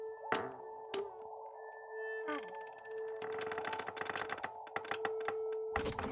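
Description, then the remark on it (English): A chair squeaks repeatedly: creaky, high-pitched squeaks repeat over several seconds, mixed with clattery clicks and a faint steady tone; fairly loud, with no one talking. “After every episode of Omnibus comes out, it says how many times your chair squeaked.”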